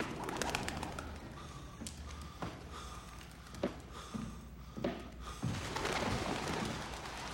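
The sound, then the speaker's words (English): Pigeons coo softly in a low, throaty murmur, with scattered sharp taps and flutters breaking through a steady background hum; no one speaks. “The pigeons did what we wanted them to do, which was scripted.”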